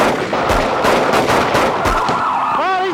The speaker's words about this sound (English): But when the driver starts firing at officers, Watch out! The officers have no choice.